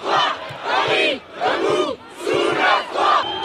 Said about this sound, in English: Well, the scene yesterday in the National Assembly, the lower house of parliament, was chaotic. Deputies yelling, banging on desks.